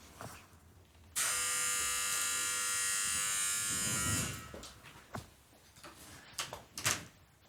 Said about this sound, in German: Oh. War das das Klingeln? Ich glaube, es hat geklingelt. Ich mach mal kurz die Tür auf. Warte kurz.